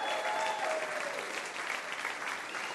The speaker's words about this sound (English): That was really, I think they deserve a bigger round of applause than that, actually.